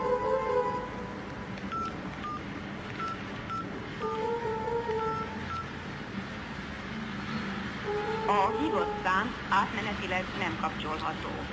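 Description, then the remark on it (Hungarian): A run of short telephone keypad tones beeps in quick succession over a steady background hum, followed by a few seconds of muffled voices. “És kinek telefonálunk?”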